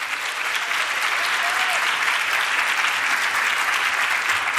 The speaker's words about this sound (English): Thank you so much for that wonderful introduction, and what an honor to see a standing room audience in a leadership conference for women. Round of applause for everybody here.